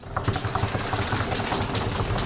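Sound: drum roll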